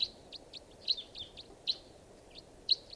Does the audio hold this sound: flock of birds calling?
yes